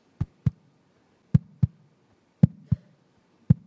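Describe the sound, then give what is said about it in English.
A steady heartbeat of deep, muffled lub-dub thumps in close pairs, repeating about once a second for several beats, with nothing else around it. “That's a heartbeat.”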